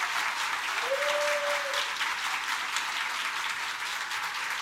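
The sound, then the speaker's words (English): A crowd applauds steadily for several seconds, a dense, even wash of clapping at constant volume, with a brief whistle-like tone rising early on and no speech. “So everyone needs to really, really give her one more round of applause, because it's been absolutely amazing.”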